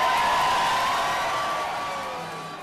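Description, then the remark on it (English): A dense, sustained roar of many supporters cheering and whooping together for Larry Krasner after his victory. It is steady and loud throughout, with a few higher shouts cutting through before it gradually eases off. “Alrighty, and there you heard a very enthusiastic crowd with Larry Krasner speaking to his supporters after his victory.”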